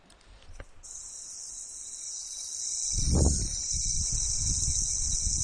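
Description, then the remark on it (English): A hard plastic yo-yo spins on its bearing with a steady, high-pitched whirring hiss that holds for several seconds, with a dull low thump midway and soft rumbling underneath. “Oh, it sounds like a harder plastic yo-yo. Definitely a sea bearing.”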